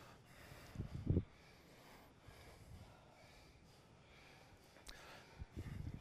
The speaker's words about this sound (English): Be deliberate about breathing out. And listen for the in-breath that comes to you when you're complete with breathing out. And then it's a pranayama.